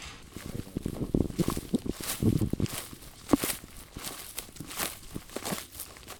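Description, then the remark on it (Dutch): Footsteps swish and crunch through tall herb-rich grassland with clover and grasses in a polder field at a steady walking pace, with soft rustling between strides and no voices. “we zijn nu midden in de polder gelopen bij een van je percelen waar we midden tussen de kruidrijk grasland staan.”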